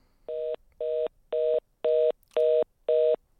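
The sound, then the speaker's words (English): A dropped phone call's line tones: six steady, evenly spaced electronic beeps pulsing in a regular on-off rhythm, clear and fairly loud, with no voices. “And we lost him. I think his phone died.”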